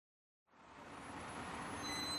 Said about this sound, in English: I'm at Tietê bus station in Sao Paulo in Brazil to catch the bus for the long trip to Lima, Peru.